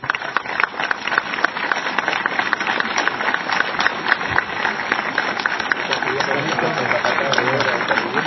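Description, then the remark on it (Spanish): An audience at a MEVIR event applauds a construction instructor to thank him, in a steady, dense patter of many hands clapping, sustained at an even loudness for about eight seconds without fading. “le quiero agradecer personalmente y que todos le reciban un aplauso.”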